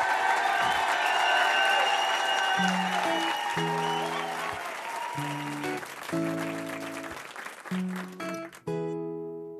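A studio audience in RTL's grand studio claps and cheers in a steady, dense burst to welcome a new guest while low musical notes begin to play beneath it. The applause thins out as the music takes over.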